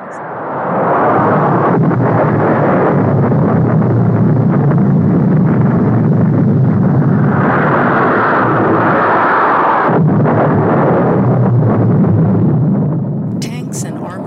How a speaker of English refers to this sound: And so my friend, this professor, and I went to the roof of the building and saw the airplanes coming and then the bombing.